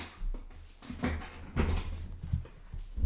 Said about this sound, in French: Après, attendez, je vais remonter la chaise.